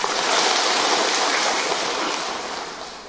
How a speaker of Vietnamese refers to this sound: Nếu như vậy là chúng ta xin có lời cảm ơn cho một tràng pháo tay.